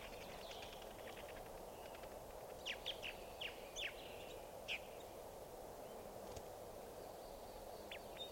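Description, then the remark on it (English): A male wild bird, coming in and going down, calls with a quick run of short, sharp, downward-sliding chirps, followed a few seconds later by one more, all over a constant low rumbling background noise. “There's a wild bird.”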